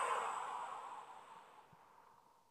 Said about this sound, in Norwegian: Pust godt inn. Og hold pusten. Og pust ut.